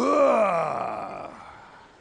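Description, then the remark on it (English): A voice imitates a single long groan of getting up from a chair, starting loud and strained, then sliding downward in pitch and trailing off over about two seconds. “It's like that thing when you get out of the chair, you make that sound your father used to make when you get up.”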